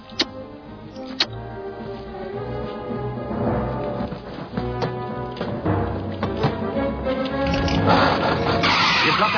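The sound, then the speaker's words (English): A German car's engine hums steadily as the car drives along, with a few sharp ticks and clicks early on and the engine noise swelling louder toward the end. “Got to hand it to the Germans. They make great cars.”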